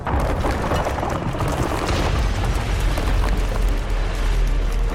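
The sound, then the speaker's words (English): A 200-foot-tall metal tower shell crumbles from within into a pile of rubble in a courtyard, with a loud, unbroken thundering roar, deep rumbling underneath and dense crackling debris scattered through all five seconds, with no voices. “For just a few moments, the 200-foot-tall metal shell stands firm, before it crumbles from within into a thundering pile of rubble in the courtyard.”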